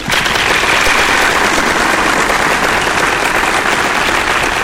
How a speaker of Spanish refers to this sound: Cabina, prepárame esos redobles y esos aplausos, por favor